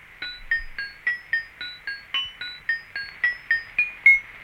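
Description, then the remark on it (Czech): A short station ident of the Moravian-Ostrava radio branch: a few tones of the Lachian folk song Pilky struck with small hammers on small anvils, about fourteen bright metallic clinks in a steady rhythm, each ringing briefly with overtones, rising and falling in pitch before ending on a higher note. “Moravsko-ostravská pobočka používala několik tónů lašské lidové písně Pilky, hrané kladívky na malé kovadlinky, čímž získala lehce industriální nádech, jenž měl posluchačům evokovat práci ostravských dělníků v železárnách a hutích.”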